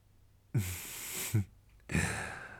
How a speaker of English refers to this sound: Your breathing is heavy, ragged, desperate.